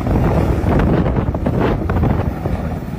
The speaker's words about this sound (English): And what's worse, it was impacting the fire department's airdrops of water. Oh my god, the wind. Look at the wind tanking.